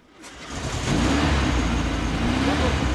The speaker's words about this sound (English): An old Porsche engine fires up at a classic car fair at one of Moscow's most upscale shopping centers.